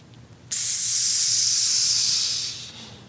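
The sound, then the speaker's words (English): A sharp, bright sizzle of a hot branding iron on cattle hide bursts in suddenly and holds as a loud, steady hiss for about two seconds, then tapers off. No voices are heard. “Anybody ever watch old cowboy movies? Branding cattle?”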